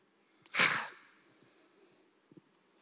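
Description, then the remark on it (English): A single harsh, rasping exhale, loud, lasting about half a second before trailing off into quiet, with a couple of faint clicks afterward. A voice producing a breathy rasp, approximating how the name of God is pronounced. “And actually, for some, the closest you can get to it is to make a rasping, breathing out sound.”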